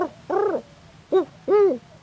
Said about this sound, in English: Because, watch this. Do you hear that mourning dove back there?